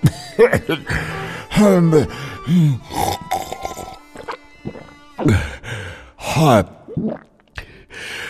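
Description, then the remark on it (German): A voice gasps and heaves for breath in a series of uneven gasps and sighs, with short pauses between, catching breath again after a cough, having been given plum seeds soaked in wine as a cough remedy. “Und du kommst wieder zu Atem.”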